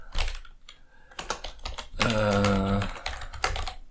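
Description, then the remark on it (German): Rapid clattering keystrokes on a computer keyboard, fairly loud, with a brief voiced hum or sung tone breaking in midway. “Heute mal wieder mit Tastaturgetippe.”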